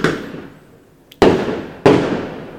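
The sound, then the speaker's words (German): New Year's Eve fireworks bang in the background in a loud, uneven series: one blast fading out at the start, then two sharp booms with rumbling tails, a faint crackle just before the second. No one speaks. “Auf jeden Fall ist immer noch Feuerwerk im Hintergrund, obwohl ich weiterreden möchte.”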